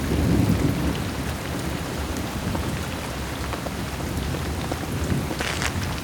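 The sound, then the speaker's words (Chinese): Heavy rain and hail pour down in a dense, steady roar that barely lets up, with a deep rumble of thunder near the start and a few sharper patters of impact scattered through. “大雨和冰雹哗啦哗啦地落了下来。”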